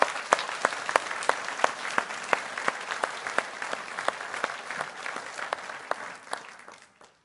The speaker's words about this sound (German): Ich finde, die Kinder haben nochmal einen ganz besonderen Applaus verdient.